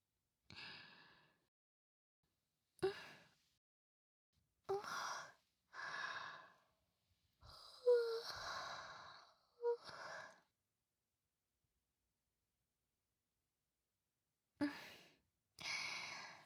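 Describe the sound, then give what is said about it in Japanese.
A big yawn: a long drawn-out breathy inhale and exhale with a low voiced groan, surrounded by several shorter sighing breaths and quiet pauses, with no talking. “やだ、大きなあくび。”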